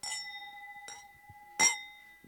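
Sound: glasses clinking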